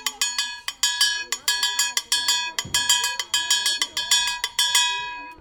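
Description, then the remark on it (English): A very large metal artillery shell casing, thought to be from World War II and fired from a cannon or howitzer, is struck again and again like a bell, each bright, ringing clang sustaining with stacked metallic overtones before the next hit, in an irregular rhythm of about a dozen strikes. “This is a very large bullet shell that was, I think it was used in World War II.”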